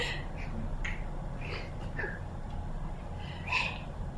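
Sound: finger snap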